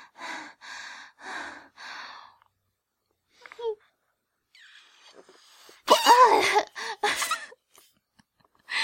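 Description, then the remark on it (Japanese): Four short, steady puffs of breath blowing air by mouth into a heart-shaped balloon, then a pause followed by louder strained gasps and a cough-like huff. “なんかパッケージに口で膨らませないでくださいって書いてあるけど大丈夫だよね。やってみる。”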